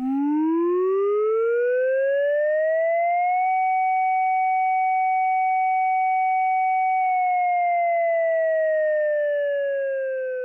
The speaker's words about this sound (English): If you've ever wondered what Finland's public warning siren sounds like, this is it.